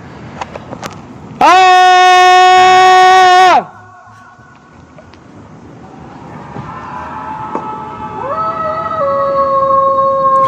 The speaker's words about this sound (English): It's Tuesday in Lapis, Stockholm, Sweden. It's almost 10 p.m. This is what happens when one person starts screaming at night.